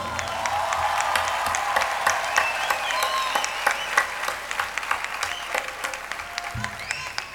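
An audience applauds steadily for several seconds in honour of a singer's voice, a dense wash of many hands clapping at an even, sustained level with a few sharper claps standing out.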